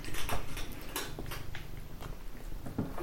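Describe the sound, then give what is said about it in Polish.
A black cat purrs in a steady, low rumble while soft shuffling and rustling sounds with scattered light ticks and patters come and go over it. No one speaks. “Być może już słyszycie takie przesuwanie i coś jeszcze? Mruczenie może? Mianowicie jest to kot, konkretnie czarny kot.”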